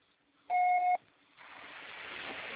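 A single loud, steady electronic beep from a phone answering machine lasts about half a second, followed by a low, steady hiss of line noise.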